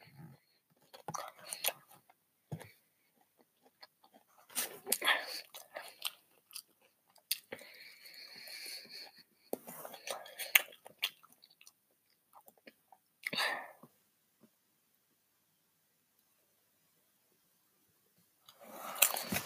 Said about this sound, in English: I'm gonna eat some more and we'll continue later.